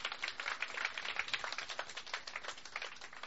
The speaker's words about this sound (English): Can we just give God a round of applause for that? Is that cool or what?